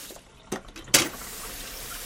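Water runs steadily from a tap into a sink as dishes are washed at home, with two sharp clinks of dishes near the start before the flow settles into a constant hiss. No one speaks.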